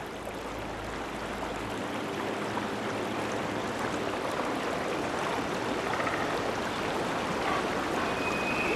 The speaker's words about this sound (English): The water swirls and ripples around twigs. The reflection of towering trees wavers. The view rises from the surface of the flowing water to reveal that it is pouring through a flooded woodland.